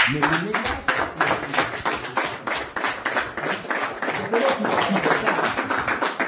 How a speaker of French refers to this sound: Là, il vient d'annoncer qu'en fait, tout continue. C'est les bergers qui ont applaudi cette bonne nouvelle, de dire tout continue comme avant.